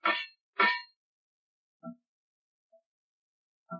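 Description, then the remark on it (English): Metallic taps from a rescue diver outside a submarine hull: two sharp clangs in quick succession, then sparser, fainter knocks spaced apart with pauses between, like a coded signal. “That's coming from outside. It's a diver from the Dolphin. Jim, give him the carry-on signal.”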